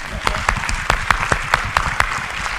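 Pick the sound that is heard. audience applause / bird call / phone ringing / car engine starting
audience applause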